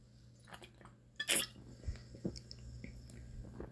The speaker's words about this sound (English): Oh man, I hope they got all the sound effects on that one. That was a big swig.